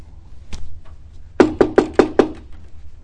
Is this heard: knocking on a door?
yes